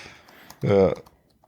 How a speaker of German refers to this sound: Ja. Und da tippt er. Wir hören das. Wir hören das. Ja, sehr gut.